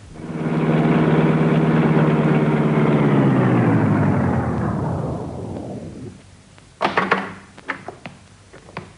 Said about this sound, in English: Uh-huh. Here comes the car.